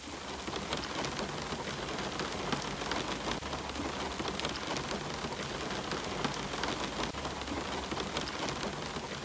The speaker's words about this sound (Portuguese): A chuva começou suavemente. Não aquela chuva forte e barulhenta que assusta a cidade, mas uma chuva calma e constante, que soava como alguém batendo de leve com os dedos na janela de um arranha-céu.